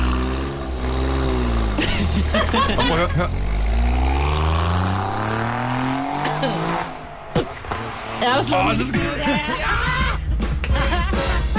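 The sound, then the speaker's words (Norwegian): A new Alfa Romeo Giulia with a Ferrari engine revs loudly, pitch sweeping up and down through repeated throttle blips, with a brief drop before revving again; a few spoken words come through underneath. “Det er den nye Alfa Romeo, som hedder Julia.”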